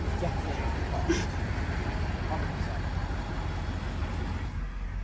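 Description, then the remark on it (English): A steady, low engine drone as heard from inside a moving car, with constant road rumble filling the background at an even level throughout. “And you're in the car.”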